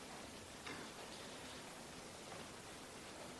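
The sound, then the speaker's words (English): A steady, soft hiss of rain falling continuously, fairly faint and even, with a couple of slightly sharper patters standing out briefly; no voices are heard. “And Lord, even as the rain now comes down, we're mindful that your word is not unfruitful,”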